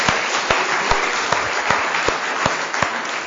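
An audience applauds an audience member steadily, a dense wash of many hands clapping, with a few sharper claps standing out in a loose, regular beat. No one speaks.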